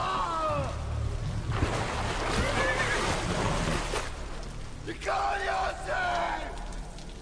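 Horses neigh in shrill, quavering whinnies, one burst at the start and another near the end, with a rough, noisy rush of commotion filling the stretch between them, as two horsemen ride from afar toward a house, in the rain.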